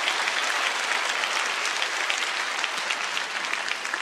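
A large audience at a church service applauds steadily for several seconds in encouragement of the sign-language interpreters and the media, design, video production, parking and guide volunteers. It is a dense, sustained wash of many hands clapping at once, with no voices standing out.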